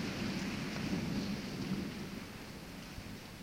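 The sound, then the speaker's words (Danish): A night thunderstorm in Melbourne: steady, dense rain hisses throughout while a deep, rolling thunder rumble sits underneath, fairly loud at first and easing slightly toward the end. No voices are heard. “På grund af varmen kan der ventes tordenvejr i nat.”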